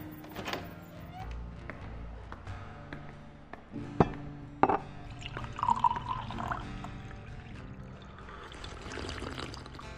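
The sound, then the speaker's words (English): A stiff drink is poured steadily into a glass, with a couple of sharp clinks and thunks midway as the glass or bottle is handled, then a gurgling trickle continues. “Or worse, or you could head back into your home, pour yourself a stiff drink, and hear what I have to say.”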